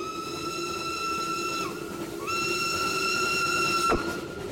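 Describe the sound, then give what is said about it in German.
A loud steam train whistle blows two long, steady blasts separated by a short gap, with a constant hiss and rumble underneath and a sharp clank near the end. “Habt ihr das gehört? War das ein Zug?”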